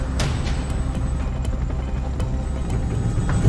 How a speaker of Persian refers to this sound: قربان، هلیکوپتر داره فرود میاد. الان کجاست؟ توی حومه شهر نزدیک گوادالاخارا. فکر کنم یه مزرعه گاو باشه. هلیکوپتر داره فرود میاد.